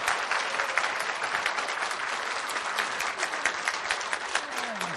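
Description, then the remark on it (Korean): Sustained applause from a large church audience for the Adonai choir after its cantata, a dense, steady wash of many hands clapping at an even loudness for about five seconds, with no voices standing out. “우리 박수 한번 다시 쳐주십시오.”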